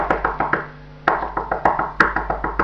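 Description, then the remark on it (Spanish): Someone raps rapidly on a door: a quick series of firm knocks, a brief pause, then a longer run of steady, evenly spaced knocks, fairly loud with no voices. “Entonces el lobo llegó a la casa y pegó otra vez a la puerta.”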